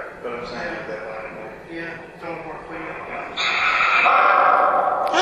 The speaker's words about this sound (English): We do have a dog here in spirit. I thought I heard a bark. Yeah, you did.